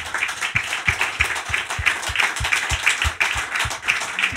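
An audience in an auditorium applauds steadily during a live-broadcast Thursday evening show of the 2023-2024 season, with a broad wash of many hands clapping over a regular, rhythmic beat of louder claps roughly three times per second, with no voices.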